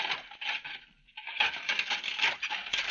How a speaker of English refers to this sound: Yes, that's Mrs. Allen doing dishes in her kitchen. It sounds just about the same, doesn't it?